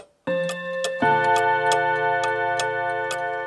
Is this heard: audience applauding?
no